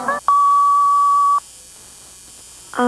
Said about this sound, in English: I'm not in right now. Please leave a message at the sound of the beep.